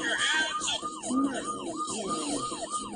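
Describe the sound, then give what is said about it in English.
Emergency vehicle sirens wail in a rapid, repeating yelp, each rising-and-falling sweep following quickly on the last, loud and steady throughout over a backdrop of road noise. “Listen to the last part with the sirens.”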